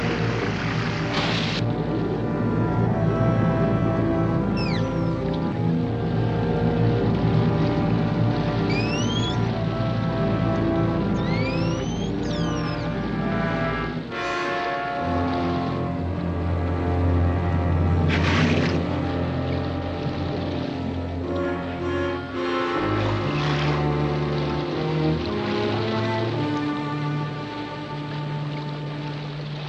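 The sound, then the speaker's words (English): A boat's engine runs loudly and steadily throughout, a low rumbling drone mixed with rushing water, with occasional faint high squeaks over the top and no talking. “Stop the engine.”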